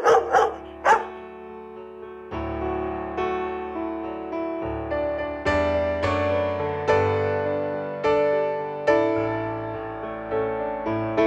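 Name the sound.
dog barking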